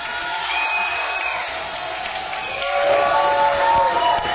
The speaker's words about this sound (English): Small but real, real vocal crowd.